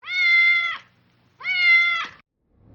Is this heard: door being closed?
no